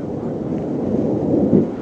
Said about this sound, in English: The American MLRS, or Multiple Launch Rocket Systems, sound a bit like jet planes taking off as they shoot out into the night sky with a bright flash of light.